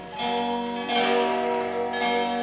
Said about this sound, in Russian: Вот чувствуете колокольный звук? Да.